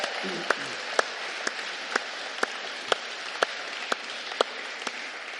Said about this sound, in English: We thanked her this morning, but just want to say thank you to our youth teams who've not just held the fort, but developed that ministry. So can we give them a round of applause, please?